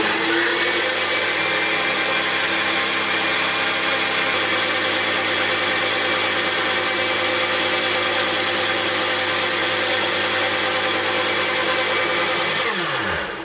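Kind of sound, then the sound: household object, kitchen blender mixing food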